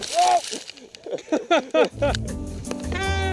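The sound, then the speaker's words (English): A skier crashes in snow at Moonlight Basin, Montana, in a 2010 ski video: a run of short, rising-and-falling yelps gives way to a sudden thump, then a rough, scraping rumble of tumbling through snow. “This is a ski video I made back in 2010. Anyway, here's me crashing.”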